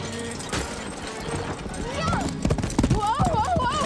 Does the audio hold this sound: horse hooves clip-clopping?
yes